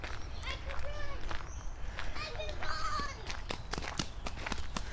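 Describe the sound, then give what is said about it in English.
Children playing outdoors up the hill, running around and screaming, their high voices rising and falling in short shouts and squeals, mixed with a steady run of footsteps and scattered sharp taps over a low rumbling background. “Oh, I'm hearing kid voices. Where are they? Sounds like they're up the hill.”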